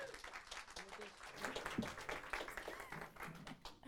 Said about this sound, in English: Give her a big hand.